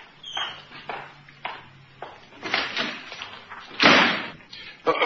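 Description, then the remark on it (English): A door slams shut with a loud thud, surrounded by several lighter knocks and bumps of movement, as a man leaves for work. “Now, don't slam the door when you go.”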